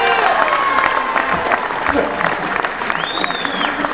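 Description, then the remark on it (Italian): An Italian crowd applauds and cheers to thank Valerio Staffelli of Striscia la Notizia, dense clapping holding steady and loud for the whole few seconds, with shouts mixed in and a brief high whistle near the end. “Io ringrazio anche a nome di Silvermele Valerio Staffelli, ringraziamolo con un applauso.”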